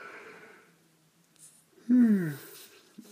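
A voice imitates a yawn: one drawn-out, breathy vocal sound sliding down in pitch, fairly loud, preceded by soft breathing and quiet.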